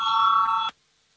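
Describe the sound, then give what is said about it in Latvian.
A loud electric voting bell in a parliament chamber rings steadily for under a second before the vote on proposal 101 from minister Pūce, a bright sustained metallic tone that cuts off abruptly into near silence. No one speaks over it. “Lūdzu zvanu balsosim par 101 varam ministra Pūces priekšlikumu.”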